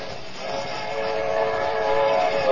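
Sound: approaching train with whistle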